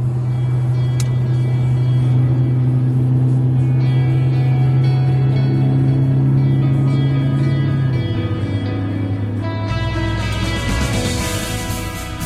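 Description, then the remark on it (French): A car engine hums steadily, then its pitch shifts and it revs up toward the end, the sound growing into a louder, rougher roar with no voices. “Alors on y va, mais vous devriez accélérer un petit peu, sinon on arrive en retard.”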